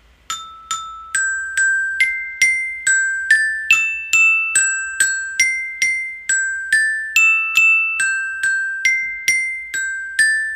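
A simple melody tapped out on a glockenspiel, bright metallic notes struck one after another at a steady pace, each ringing briefly before the next, played alone with no voices.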